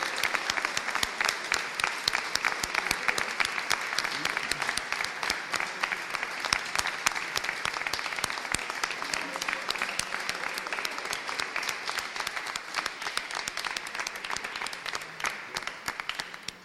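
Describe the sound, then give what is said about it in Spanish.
Sustained loud applause from a large crowd at a municipal reception in the Palacio Consistorial in Cartagena, honouring winners who made history after 30 years. A dense steady clatter of many hands clapping lasts about sixteen seconds with no pause, no voices standing out. “En primer lugar, antes de dar la enhorabuena y que se oiga más allá de las paredes de este Palacio Consistorial, un fuerte aplauso a los ganadores y a los que han hecho historia después de 30 años en Cartagena.”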